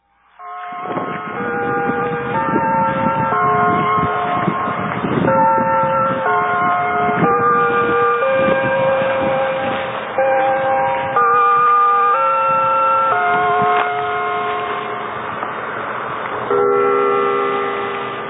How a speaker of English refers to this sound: As the bells finish tolling in the background on July 8, 1998, 2 days after the gathering, I'm sitting down alone in reflection at Mountain Cemetery.